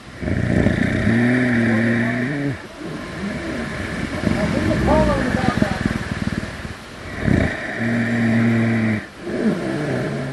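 A brown bear snoring at Sitka's Fortress of the Bear, where a sow and three cubs slept after being tagged and collared: long, droning, engine-like rumbles with a buzzing tone, separated by rougher, breathy stretches, repeating in a slow cycle at steady loudness.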